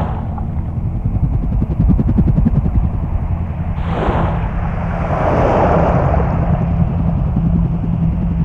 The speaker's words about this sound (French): Alors on a aussi des petits propulseurs électriques, des petites torpilles avec des moteurs électriques, petites hélices, et ça nous permet d'aller vite sans s'essouffler aussi.